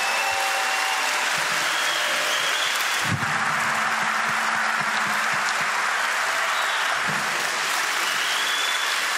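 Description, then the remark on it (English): A large crowd applauds the Secret Service agents and military personnel who travel with the speaker, a dense wash of clapping that stays loud and even throughout. “And I really appreciate you giving them a round of applause.”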